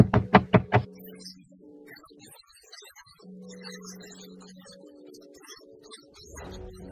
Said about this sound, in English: You know, you ever met a chick that her first kid's father, they still get along, he can come to the house, he knocking on the door?